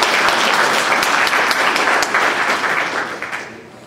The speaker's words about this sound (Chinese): 我们仍然用热烈的掌声来欢迎师师母。